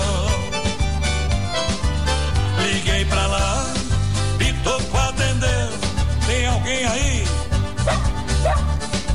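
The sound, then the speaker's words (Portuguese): Repeated dog barks and yips ring out over loud, busy band music with a heavy, steady bass line that fills the whole stretch. “Me procurou pra acabar com a traição, emprestei o meu cachorro pra ter a confirmação.”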